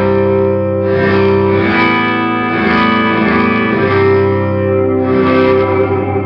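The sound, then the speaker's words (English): An electric guitar played through a reverse reverb effect drones with sustained, layered tones, swelling and blooming in washes that build rather than decay, giving a smeared, backward-sounding reverb with no voices present. “So it's like, so like, that's the reverse reverb.”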